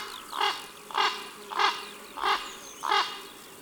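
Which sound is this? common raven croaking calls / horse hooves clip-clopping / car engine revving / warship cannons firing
common raven croaking calls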